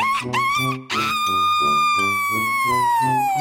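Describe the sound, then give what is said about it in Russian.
A rooster crows loudly and shrilly: a couple of short rising calls, then one long, strained note that slowly sinks in pitch, over a steady pulsing musical beat. “Его песня была гораздо громче и пронзительнее, чем раньше.”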